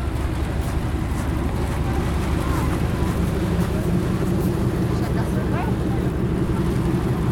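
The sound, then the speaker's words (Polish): An LXD2 narrow-gauge diesel locomotive pulling a historic train from Rogów station in Poland runs with a steady, heavy engine rumble and rattling mechanical noise, heard from on board the locomotive, with wind buffeting the microphone throughout. “Jesteśmy na lokomotywie LXD2.”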